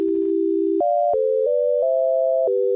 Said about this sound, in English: As you spin the hard drives, it produces a sound just as if you would pluck a string.